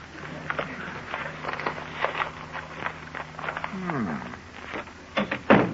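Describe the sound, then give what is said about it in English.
A soft, flat thud as a newspaper, heaved toward the house by someone riding a bicycle, lands against the front door near the end, after a stretch of light shuffling and scattered taps with a faint hum underneath. “his bicycle no hands at a daring rate of speed, heaves the paper in the general direction of the house,”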